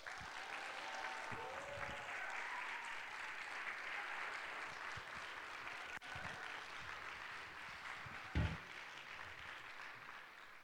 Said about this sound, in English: Without further welcome, let's just give our guest a round of applause.